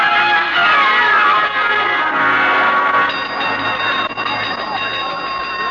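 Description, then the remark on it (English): A fire drill gong rings loudly and continuously, its bright metallic tone clanging on without pause for several seconds, with no voices over it. “Boynton, what made you ring the gong for a fire drill?”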